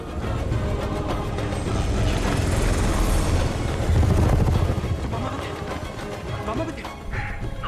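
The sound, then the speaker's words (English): Helicopters with Russian pilots roar overhead as they fly over mountains, in a loud, continuous wash of rotor and engine noise, swelling slightly toward the middle before easing off near the end. “As the helicopters fly over the mountains, two Afghan men run out from some shrubbery and inexpertly aim a rocket launcher at them.”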